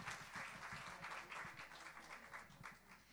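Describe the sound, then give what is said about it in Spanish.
An audience gathered on a December morning in 2016 applauds warmly to welcome a Bible teacher, many hands clapping in a dense, continuous patter that stays fairly even in loudness throughout, with no voices heard. “Recibámoslo con un aplauso de cariño.”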